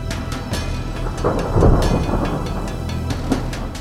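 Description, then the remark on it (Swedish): A thunderclap from a lightning strike rolls through steady rainfall, swelling into a deep rumble around the middle before fading back into the hiss of rain. Nobody speaks. “En blixt kan till exempel ha en temperatur på 30 000 grader Celsius.”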